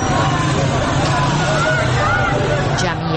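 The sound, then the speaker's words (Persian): A group of riot police motorcycles comes down the street with a loud, steady engine roar, rumbling past people standing on the sidewalk over a noisy crowd hubbub, with people's voices mixed in throughout the few seconds. “یک گروه از موتوری های ضد شورش از بالا می آیند و با سر و صدای زیاد از کنار مردمی که در پیاده رو ایستادند حرکت می کنند.”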